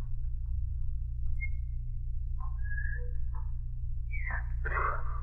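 A few short whistled notes and rising chirps, sparse and halting rather than a flowing melody, over a steady low rumbling hum.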